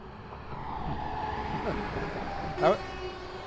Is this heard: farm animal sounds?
no